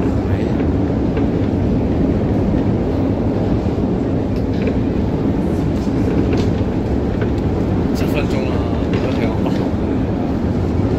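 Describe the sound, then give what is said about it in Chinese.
A loud, steady low rumble of a metro train fills a deep underground station in Ukraine's deepest metro, which serves as an air-raid shelter, droning continuously without fading, with faint scattered clatter and murmuring voices in the background. “好似就系乌克兰最深嘅地铁， 防空洞啊嘛。”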